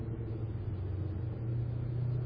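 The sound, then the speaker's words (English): A four-wheel drive truck drives through deep water on a street flooded by a heavy thunderstorm, its engine a steady, low rumble that swells slightly toward the end, with no voices. “So water so deep in my four-wheel drive truck, I was afraid almost to drive through it.”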